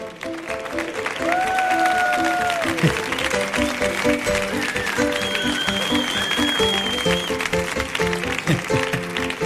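A large audience claps loudly and steadily for several seconds for a speaker, with whistles rising above the dense applause and music playing underneath.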